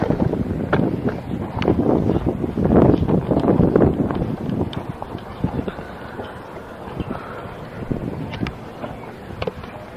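An outdoor breeze on a sunny day buffets the microphone in a low, uneven rumble, gusting strongest over the first few seconds before easing, with scattered brief crackles and knocks and no voices.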